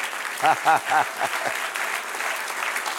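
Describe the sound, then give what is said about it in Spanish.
An audience applauds the Lord in a steady, dense wash of clapping, while a few short voiced exclamations ring out over it near the start. “Dame un aplauso al Señor, amén.”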